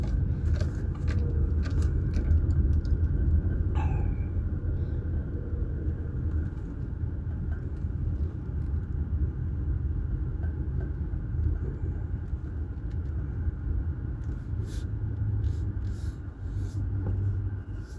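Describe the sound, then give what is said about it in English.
An Assembly of God church van drives past, going the wrong direction, over a steady, heavy low engine rumble that holds at an even loudness for the whole stretch, with faint higher rattles and no voices. “I've got an Assembly of God church van going in the wrong direction.”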